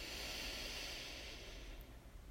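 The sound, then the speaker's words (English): A single soft, airy ujjayi yoga breath, an out-breath with a gentle throaty, soft snoring hiss, drawn out steadily for a couple of seconds before trailing off. Quiet and alone, with no talking. “And that is the soft snoring ujjayi breath.”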